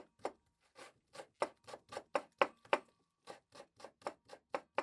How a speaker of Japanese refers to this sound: 包丁よ、野菜を切って。